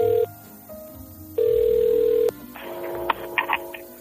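A phone's ringback tone on an outgoing call from radio station COPE to an elderly woman at a care home, San Antonio de Benajever, in the Valencia region: two steady mid-pitched tone bursts, a short one then a longer one, followed by faint clicks and a brief murmur as the line connects.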